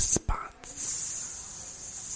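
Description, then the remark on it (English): A man hisses into the microphone, a couple of short breathy bursts followed by a long, steady, sharp hiss lasting nearly two seconds, a voice imitating a snake-like or steam sound. “He just started hissing.”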